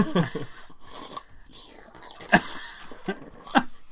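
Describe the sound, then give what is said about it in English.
Wet slurping of a drink, with softer sipping noises building to two sharp, loud slurps near the end, and faint murmuring in the background. “I keep slurping really loudly.”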